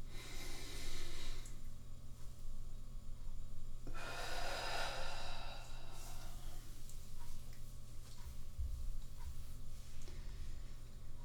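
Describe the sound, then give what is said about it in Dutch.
Heavy breathing with a yawn: a breathy exhale at the start, then a longer, louder airy yawn-like breath a few seconds later, over a steady low hum with no talking. “Adem en gaap.”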